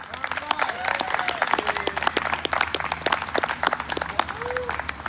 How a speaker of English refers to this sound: On Mother's Day each year, we take the opportunity to celebrate all our wonderful females, and we've got a lot of them. Can I hear a cheer for all of our wonderful females?